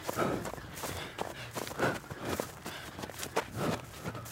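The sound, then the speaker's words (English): Steady running footsteps thud in an even rhythm, about two per second, with breathing rising and falling in time with the strides, two breaths in and two breaths out matched to the feet, fairly quiet. “See, it's all breathing and feet. They all go together.”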